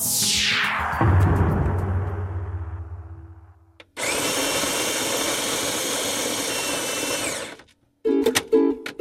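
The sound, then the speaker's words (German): A coffee machine in a radio station canteen whirs and winds down with a falling pitch, then a loud, steady hiss of steam froths milk for a cappuccino for about four seconds, followed by brief clattering. “Letzthin stehe ich in der Radiokantine an der Kaffeemaschine. Cappuccino schäumt wunderprächtig.”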